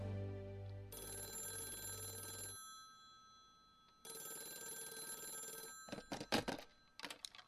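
A daycare's telephone rings twice with a bright, buzzy bell tone, each ring lasting a couple of seconds with a pause between, followed by a few short clattering clicks like a receiver being picked up.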